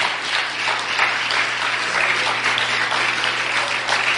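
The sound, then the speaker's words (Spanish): A crowd bursts into steady, vigorous applause, dense overlapping claps holding a loud, even roar for several seconds with no voices over it. The applause comes during a church sermon, at the preacher's request to clap strongly. “No, si van a darle un aplauso, déselo con fuerza, por favor.”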